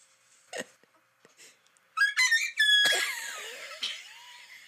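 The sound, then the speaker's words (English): A rooster crows, a loud, strained, harmonic call lasting a couple of seconds that breaks into a raspy, wavering tail, preceded by a few faint clicks and quiet rustles. “First you hear a real rooster. Then you wait a minute. And then you hear the other rooster.”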